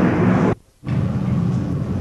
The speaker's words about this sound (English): Hold on 1 second, let's let this jet do its thing.